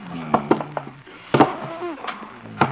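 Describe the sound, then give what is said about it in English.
A heavy wooden desk is shoved against a door to barricade it at a radio station: a series of loud thuds and knocks, uneven in rhythm, with some scraping and faint effortful vocal sounds between the impacts. “Better barricade the door. First the desk.”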